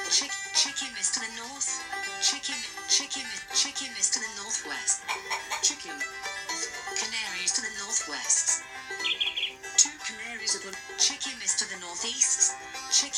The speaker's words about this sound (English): Oops. You found a canary.